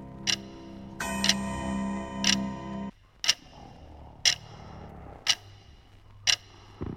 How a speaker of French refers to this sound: Il se tourne et se retourne dans son lit, en écoutant la grande horloge du salon égrener les secondes.